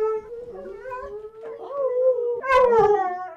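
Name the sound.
dogs barking and howling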